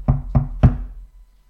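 Three firm knocks on a door in an even rhythm, fairly loud, each a dull thud with a short decay, followed by quiet.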